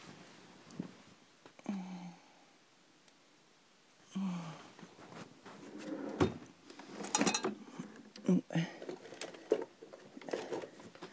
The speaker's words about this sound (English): Let me just get it out the bottom drawer.